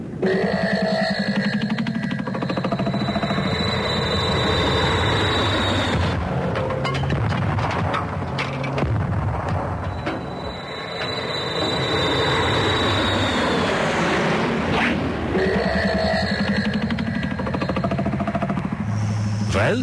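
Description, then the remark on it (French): A loud, steady airplane engine roar with a high whine that repeatedly rises and fades as the plane is warmed up in a hangar before a flight to Egypt, filling the whole stretch without pause. “Latex, tu fais chauffer l'avion, nous partons en Égypte”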